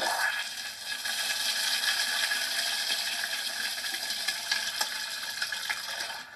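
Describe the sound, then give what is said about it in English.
A Kohler Power Flush toilet flushing: a loud, steady rush of water with a hissing roar that holds for about six seconds, with no voices. “That's a power flush toilet want.”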